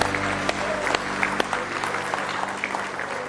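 An audience claps in praise of the Lord, a dense, steady wash of many hands with sharper individual claps popping out, over a low sustained hum of organ or keyboard chords.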